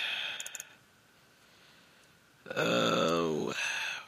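A gurgling burp rumbles out for about a second after a quiet pause, partly held back, with a few faint clicks before it and no talking.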